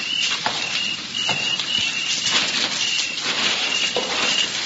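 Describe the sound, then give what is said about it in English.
Footsteps coming up an alley, a steady series of about seven moderate thuds spaced roughly half a second apart, over a thin, high, intermittent chirping and a soft background hiss. No voices. “Listen. Someone's coming up the alley.”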